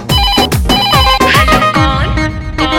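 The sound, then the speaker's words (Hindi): A loud musical phone ringtone plays on its own as a phone call is placed again, a bright looping melody over a steady, punchy bass beat that repeats every fraction of a second, continuous. “ऐसा बात है तो लगा ले फिर से फोन, देखते हैं साला उठाता है कौन।”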